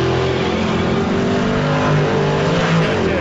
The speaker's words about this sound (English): The lowrider took off.